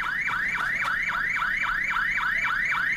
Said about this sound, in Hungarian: Kurva, riasztó!